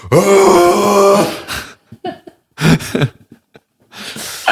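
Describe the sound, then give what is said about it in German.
A person imitates a moose mating call: a long, loud, nasal groaning moan with a wavering pitch, followed by several shorter grunting bursts and breathy gasps separated by brief silences. “Ich finde, es gibt richtig viele Tiere, die so einen richtig lustigen Balzlaut haben. Zum Beispiel Elche.”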